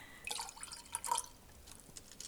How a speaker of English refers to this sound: All these water noises, I expect to see ducks swimming by any moment.